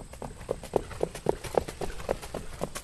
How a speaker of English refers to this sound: turns laps with his 3-year-old nut brown pacer on his homemade track near Westport, New York